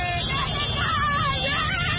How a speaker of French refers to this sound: Parade de centaines de mototaxis. Concert de klaxons. Chants de supporters. Ou plus simplement, cris de joie.